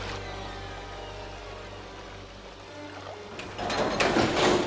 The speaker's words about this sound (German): Plötzlich wurde die Tür oberhalb der Treppe aufgebrochen und es erschienen 4 Männer in dunkelblauen Anzügen.